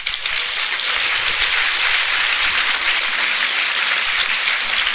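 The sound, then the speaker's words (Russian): Sustained applause from an audience at the end of a lecture, a dense, steady wash of many hands clapping at an even loudness throughout, with no voices standing out. “Я могу только одним образом истолковать ваши аплодисменты.”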